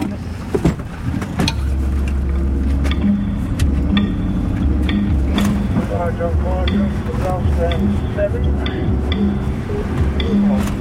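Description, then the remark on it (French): A heavy fire truck engine rumbles steadily with loud wind buffeting, rattles and thumps as it bounces along a small track through the middle of a forest; voices speak intermittently over the noise. “Et là, c'est impressionnant parce que perché en haut du camion de pompiers, on s'enfonce un peu sur la petite piste qui est au milieu de la forêt.”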